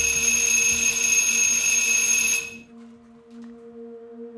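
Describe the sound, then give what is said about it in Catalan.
A doorbell at Andy's studio, rung by Valerie Solanas on 3 June 1968 asking to meet him, buzzes in one long, loud, harsh ring for about two and a half seconds, then cuts off abruptly, leaving only a faint steady hum. “Aquell dia, la Valerie pica el timbre demanant reunir-se amb ell.”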